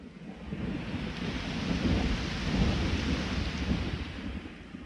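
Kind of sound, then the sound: nature, rain with thunder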